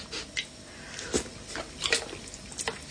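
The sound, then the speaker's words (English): Monster Munch soup being eaten with a spoon straight from a kettle used as a bowl: quiet slurps, wet squishing and a few light clicks scattered irregularly over a few seconds, with no talking. “What you do is then you just unplug the kettle, and then you use the kettle as a sort of bowl and serve the Monster Munch soup straight into your mouth with a spoon.”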